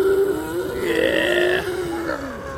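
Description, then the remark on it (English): A captive elephant gives a deep, drawn-out rumble to a companion, a loud continuous throaty tone that wavers slightly in pitch and sinks lower toward the end, with no one talking over it. “Eavesdropping on this conversation between old friends reminds me what's really important for these captive elephants.”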